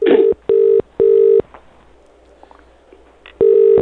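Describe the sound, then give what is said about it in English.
Telephone dialing tones as a man is called right back: a few loud, steady electronic beeps in quick succession, a short quiet pause with faint background noise, then one more beep. “I'm going to call him right back.”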